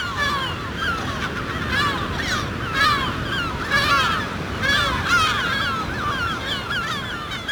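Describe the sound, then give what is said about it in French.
A dense chorus of herring gulls and lesser black-backed gulls calling from a breeding colony, many overlapping harsh, wailing cries rising and falling continuously over a steady rushing background of wind or surf. “on va aller capturer des goélands argentés, des goélands bruns et peut-être du goéland marin, dans le but de leur poser des bagues et des GPS.”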